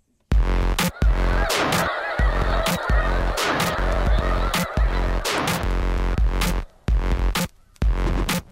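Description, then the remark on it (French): A large flock of migrating snow geese honking continuously, a dense chorus of overlapping calls with sharp individual honks standing out over the crowded background clamor. “Les oies blanches sont un peu le fleuron de nos oiseaux migrateurs.”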